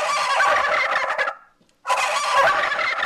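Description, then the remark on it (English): A novelty car horn blares a loud turkey gobble in two long, warbling bursts with a brief silent gap between them, the rapid nasal trilling sitting in the upper-middle range. “just in time for the Thanksgiving holiday, they also have a turkey car horn.”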